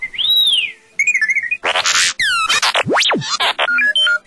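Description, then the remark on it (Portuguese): A rapid, chattering string of electronic droid beeps, whistles and warbling chirps like those of R2-D2 in the Star Wars saga, with rising and falling sweeps and a sharp upward zip, loud with no talking. “Os sons distintos dos droides, como o bip-bip do R2-D2 e o falastrão C-3PO, ajudam a dar personalidade a esses personagens não humanos.”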